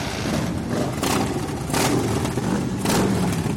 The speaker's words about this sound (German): Es geht los. Gaspedale werden getreten und die Motoren von geschätzt 200 Maschinen brummen los. Die Zweirad-Karawane setzt sich in Bewegung, vorneweg die indigenen Aktivistinnen.